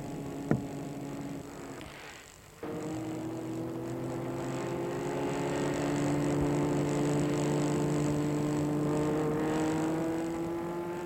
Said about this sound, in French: Dans une petite rue transversale, il trouve la Rolls. Il s'engouffre dedans. La voiture file.